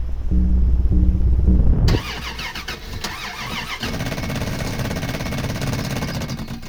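An old truck engine cranks but fails to start because of a faulty solenoid, a low churning rumble giving way to a harsh, steady mechanical grinding and rattling that never catches and settles into running. No voices.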